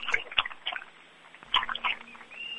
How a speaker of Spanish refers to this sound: hay infinidad de vecinos y vecinas bajo la lluvia, todos aplaudiendo menos yo, que tengo que tener el teléfono. Te iba a decir que nos pongas el móvil y así escuchamos los aplausos,